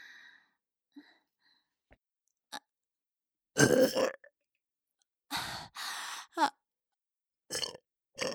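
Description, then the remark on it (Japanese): A run of loud burps: a long rumbling one, then a pair of drawn-out belches and a few shorter ones, separated by quiet pauses and faint breathy clicks. “ねえ、以前のあなたのおしっこゲップと比べていかが？”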